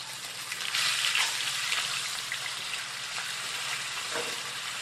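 Steady sizzling and crackling of fish fillets frying in a hot cast iron pan with pork fat and olive oil, a continuous bright hiss with small pops scattered throughout, no voices.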